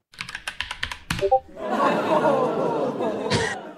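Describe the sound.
A quick run of sharp clicking taps gives way to a steady, dense crowd-like murmur of chatter and cheering, produced by a single voice imitating a crowd, swelling briefly near the end.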